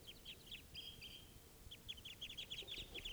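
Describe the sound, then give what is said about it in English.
Several birds from a flock of five call at once, a busy run of short, high chirps and thin whistles that overlap, pause briefly, then burst out again over a low rumbling background. “There's more than one bird there.”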